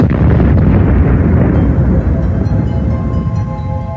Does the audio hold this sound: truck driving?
no